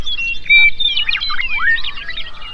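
Birdsong isolated from a mix of sounds including people talking and highway noise by a steep filter around 2.5 kilohertz: rapid chirps, trills and whistled sweeps overlap continuously for a few seconds, with no voices and almost nothing beneath the bright, thin calls.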